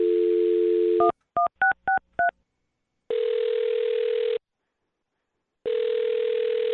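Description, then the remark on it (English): A steady telephone dial tone cuts off into five quick touch-tone dialing beeps as a woman's phone number is dialed, followed by two long ringback tones separated by a few seconds of silence. Clear, with no voices. “Well, I'm going to dial her phone number right now and find out why she's not calling you back, okay?”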